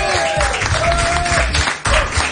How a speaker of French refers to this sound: tu gagnes 500 euros, ça s'applaudit